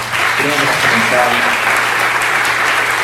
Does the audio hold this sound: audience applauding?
yes